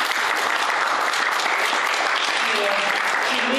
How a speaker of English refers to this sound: She does need a round of applause.